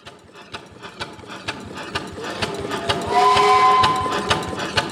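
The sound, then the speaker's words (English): Rapid, steady mechanical clatter of steam engine gears and pistons at Kinetic Steamworks, a warehouse workspace behind a metal scrapyard, loud, with a hiss of steam and a faint whistle-like tone swelling midway. “I'm surrounded by large gears, metal pistons, and billowing clouds of hot, wet steam.”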